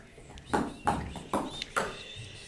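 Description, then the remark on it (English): Jaffa cakes rolling down a hallway, heard as four evenly spaced hollow clopping thumps, somewhat like hoofbeats, over a faint steady hiss with no talking. “Look, it's Jaffa's being rolled down the hall.”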